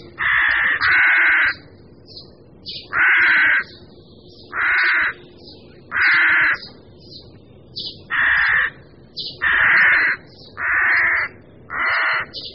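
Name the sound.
rooks cawing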